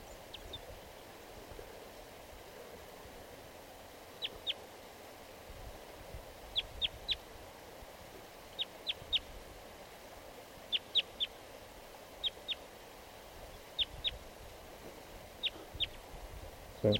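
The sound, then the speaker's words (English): A wild crossbill sings in a tree behind a net: short, sharp, high-pitched chirps in quick clusters of two or three, repeating at irregular intervals over a steady rushing background hiss. “A crossbill just, I just noticed it. It's singing here in the tree.”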